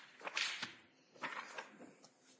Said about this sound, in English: Wait until he gets in. Wait until the door is closed. Did someone make sure the door is closed?